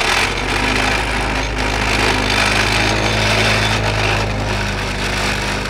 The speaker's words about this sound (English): In between some tart cherry trees, a worker holds a 10 to 12 foot fence post in place. Then Coronado, in his tractor, plants what looks like a stamp down on top. The tractor shoves the post into the ground, loudly rattling along the way.